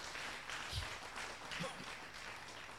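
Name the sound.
audience clapping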